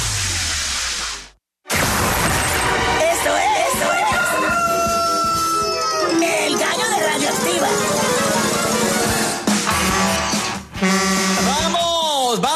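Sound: rooster crowing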